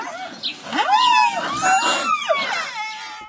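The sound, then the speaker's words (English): A baby rhino gives a series of soft, high, whining moos to its mother, each call rising then falling in pitch, repeated about three times with no one talking. “So one of the cutest ones is a little moo that the babies will make to their mom.”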